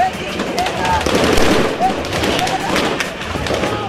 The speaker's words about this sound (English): What he shows is supporters of the ousted president Mohamed Morsi throwing rocks at the army, who respond with gunfire.